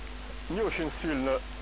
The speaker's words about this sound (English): A bee is flying around.